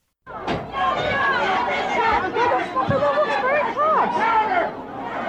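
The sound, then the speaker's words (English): A dense, loud crowd at a store sale, many overlapping voices yelling and clamoring at once as a store manager stands on a table throwing cardboard boxes into the crowd, a continuous excited din with a couple of brief thumps breaking through. “In this video that you're about to hear, a store manager stands up on a table above a screaming crowd, throwing cardboard boxes into the sea of people the way a bride might throw a bouquet.”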